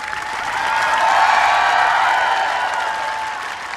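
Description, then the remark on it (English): Sustained applause from a large crowd, including hundreds of tourists, at the U.S. Capitol in Washington greeting Senator Ted Kennedy's remains and the Kennedy family as his funeral motorcade stopped there: a dense steady patter of many hands clapping that swells slightly in the middle and continues without pause, with no voices standing out. “The crowd, which included hundreds of tourists, greeted the senator's remains and the Kennedy family with extended applause.”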